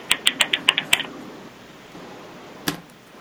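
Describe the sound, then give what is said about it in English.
A quick burst of about seven crisp clicks like keys being typed, then a pause and one more sharp click. No one speaks. “It sounded like somebody was typing.”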